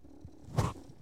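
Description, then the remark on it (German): A male cat purring after jumping onto a person's belly: a soft, low rumble that swells briefly into a louder throaty burst midway, then fades back to a faint hum. No one speaks. “Der Kater ist hier gerade auf meinen Bauch gesprungen und schnurrt mich jetzt voll hier.”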